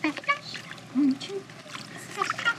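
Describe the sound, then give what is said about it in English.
An Alsatian named Abby splashes and thrashes in pool water, pawing at a pool cleaner and trying to drag it out of the water, producing repeated splashes and sloshing, with brief whining or squeaky tones mixed in. “Abby tries to drag it out of the water.”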